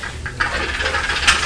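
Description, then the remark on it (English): A toy tumbles off a table and lands with a sudden sharp clatter, followed by a stretch of rattling, scraping noise and one more small knock near the end. No one speaks. “Oh dear, now it's fallen off the table. That was a big bang, wasn't it?”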